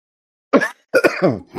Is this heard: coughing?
yes